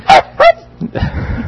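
Two sharp, high yips ring out in quick succession, followed by softer, lower murmuring sounds, like a small robotic dog barking twice.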